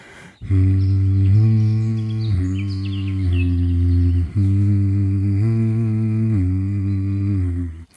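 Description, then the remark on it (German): A voice hums steadily in a low, sustained tone as a voice exercise, shifting pitch in a few gentle steps as it goes, with brief breaks between the held notes and no talking. “Wenn euch das zu langweilig ist, dürft ihr natürlich auch in Tönen summen.”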